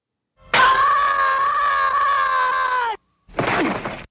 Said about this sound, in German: Das ist aus Peanuts. Das ist Charlie Brown. Org nennt sich das. Org. Org. Der Org-Schrei. Und hier ist der, hört genau hin, wie er hier geloopt ist.